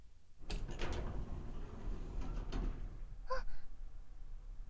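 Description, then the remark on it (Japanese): A heavy iron door in a building rumbles and scrapes as it slides open, with a couple of dull clunks and a brief high metallic squeal near the end, loud. “その鉄の扉は？”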